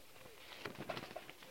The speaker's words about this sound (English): And that's a robin, a bird.